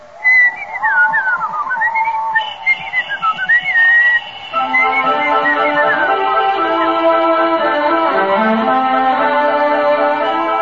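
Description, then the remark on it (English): A person whistles a tune, a bright wavering melody of rising and falling notes lasting about four seconds, followed by fuller sustained tones that carry on to the end. “I'll whistle.”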